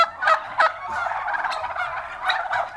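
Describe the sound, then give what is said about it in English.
A turkey gobbles in a rapid, warbling burst of loud, throaty rattling calls that rise and fall for a few seconds, with no talking over it, played on Radio 1. “You're listening to a sound of a turkey on Radio 1.”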